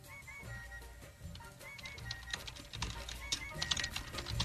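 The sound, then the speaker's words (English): Rapid, irregular clicking of keys being typed on a keyboard, a steady patter of light taps that grows slightly busier, against a low background hum. “You can hear him typing.”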